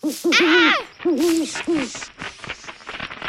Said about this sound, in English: Oh, so sorry. I didn't mean to frighten you. You're just a dumb old owl.